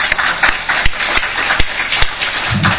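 A crowd applauds in a steady, dense wash of clapping that lasts the whole stretch, with a few sharper individual claps popping out above the rest. No one speaks.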